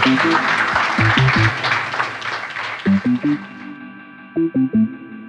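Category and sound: crowd, audience applauding warmly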